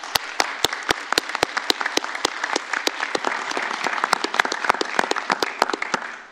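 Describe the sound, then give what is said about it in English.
Steady applause from an audience for three recipients, dense overlapping claps with a few sharper, louder hand claps standing out regularly throughout, sustained at an even level with no speech. “So I ask for a round of applause for our three recipients.”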